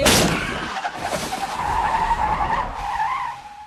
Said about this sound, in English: It's when Chris and Rose are headed to her parents' house and they're driving in a car. They're having a conversation and laughing, and then all of a sudden a deer hits the front of the car.